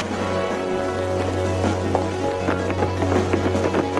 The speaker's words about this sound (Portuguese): E o cara saiu correndo e nem desligou o chuveiro, ó. De nada, pra quê? Deixa vazar a água.